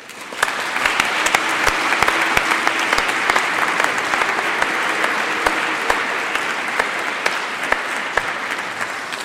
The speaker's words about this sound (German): Ja, liebe Schwestern und Brüder, ein herzliches Dankeschön unseren Kommunionkindern für die Vorstellung heute. Das war einfach ganz prima und ich denke, da dürfen wir jetzt auch nochmal klatschen dafür, dass das so gut war.